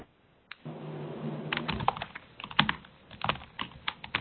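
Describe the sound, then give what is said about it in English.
Someone types on a computer keyboard, a quick, uneven run of crisp key clicks. A low steady hum sits under the first part, and no one speaks. “Again, seeing some folks typing.”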